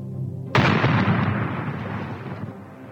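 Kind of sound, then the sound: impact, bombs exploding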